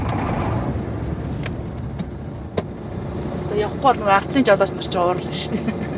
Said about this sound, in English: Trucks idle in gridlock like a row of dominoes.